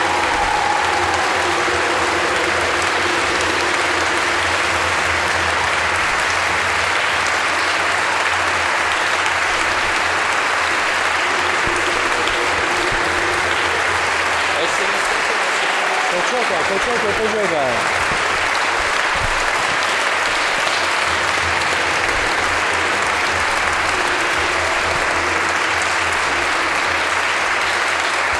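A large crowd applauds steadily in thanks to God on a day of fine weather after rain, dense clapping going on for nearly half a minute with a brief swell in the middle before continuing at an even level.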